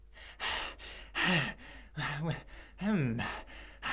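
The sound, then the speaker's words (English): A voice imitates a wolf sitting at the roadside after blowing hard, heavily panting and wheezing: a steady run of breathy, rasping gasps, some with strained whining tones, fairly loud, with no words spoken. “sat at the roadside, panting and wheezing.”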